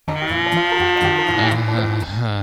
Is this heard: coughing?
no